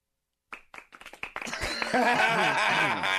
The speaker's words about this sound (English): Yeah, what a great crowd. Oh, man. You guys got to be pretty wasted to clap for me, man.